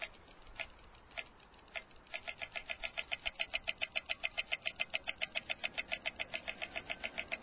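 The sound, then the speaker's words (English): A pedestrian crossing signal at an intersection ticks in a steady, rapid rhythm, sharp clicks repeating several times a second after a few slower, sparse clicks at the start, with low traffic rumble underneath; signals in every direction of the intersection click. “every direction in this intersection has clicking”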